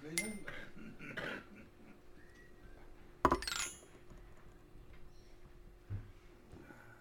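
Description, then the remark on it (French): Glasses clink together in a toast: one bright, ringing clink stands out midway, after a few lighter knocks, with a faint murmur of voices in the background. “Tchin, tchin.”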